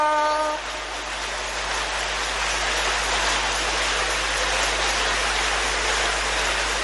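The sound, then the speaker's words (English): A crowd claps steadily for several seconds, a dense, even wash of hand claps with no voices, briefly preceded by a faint sustained tone at the very start. “You want to clap for him.”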